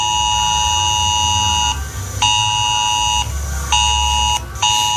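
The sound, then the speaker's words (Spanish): A loud, harsh emergency alert tone blares from a mobile phone at home in repeated bursts with short gaps between them, steady and piercing, with a low rumble underneath and no talking; the alarm signals a crisis with war drawing closer. “La alarma indica que hemos entrado en un escenario de crisis en el que la guerra está cada vez más cerca.”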